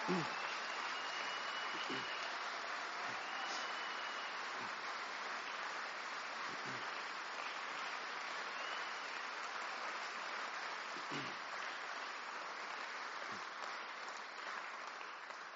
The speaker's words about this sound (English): But above all, we owe our thanks to the musicians and the singers behind me who have been quite amazing this evening. Let's show a round of applause.